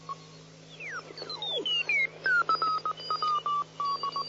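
Amateur radio Morse code, a signal from Brazil: a high tone keyed on and off in quick short and longer pulses, with sliding whistles, crackle and a steady low hum underneath. No one speaks.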